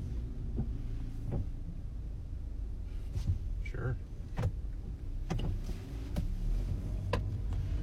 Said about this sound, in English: Okay. Oh, that car's moving.